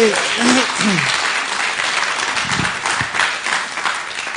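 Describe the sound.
A crowd breaks into a steady round of applause, a dense, even wash of many hands clapping for several seconds, with a few voices cheering briefly at the start.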